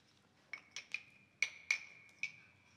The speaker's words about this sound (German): Unheimliche Geräusche sind aus dem Raum zu hören. Skelette klappern mit ihren Knochen.